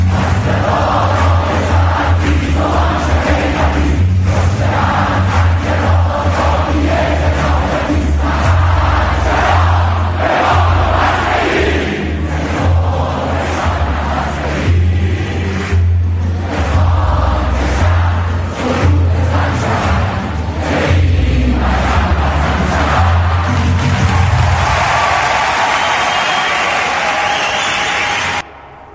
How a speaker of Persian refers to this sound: شنیدید تو شریف چی میخوندن؟ میگه میمونیم چیکار میکنیم؟ بمانو پس بگیر میگه گفتند.